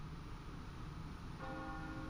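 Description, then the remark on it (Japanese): A church bell across the canal sounds once, marking departure time, over a steady low rumble of background noise, its ringing tone lingering softly to the end. “それでは運河を挟んで向かいにある教会の鐘が聞こえますと、ちょうど出発の時間になります。”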